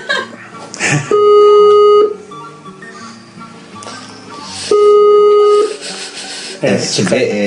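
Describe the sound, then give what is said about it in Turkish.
Two one-second ringback tones from an outgoing phone call to a guest during a live broadcast, a steady mid-pitched hum repeating with a pause of a few seconds between, over faint background voices and noise. “Evet, şimdi Ali çalıyor. Ali açarsa biraz sonra alacağız tabii.”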